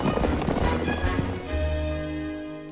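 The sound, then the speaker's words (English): Rapid drumming of the horse Buck's hooves as he gallops in a circular pattern over dry, dusty ground, kicking up a plume of dust, for about a second and a half, then giving way to a steady, sustained tonal hum. “He shoots off, kicking up a plume of dust behind him. He gallops in a circular pattern, retracing his path, riding back on himself in a continuous loop.”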